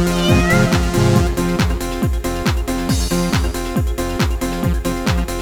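A stray cat meows a few times near the start, its wavering cries riding over a steady, bass-heavy rhythmic music backing that continues throughout.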